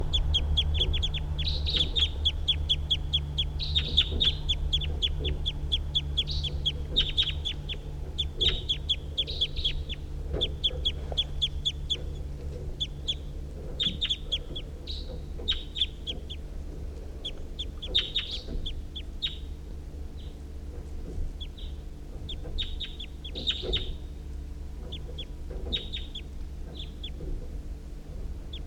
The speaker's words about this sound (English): recording the wild birds.